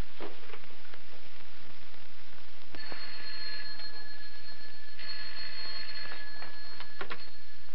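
An old-fashioned telephone bell rings in two long bursts with a short pause between, bright and shrill over a hissy, crackly background, preceded by some faint clattering.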